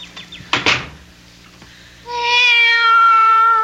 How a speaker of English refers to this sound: Be quiet, cat.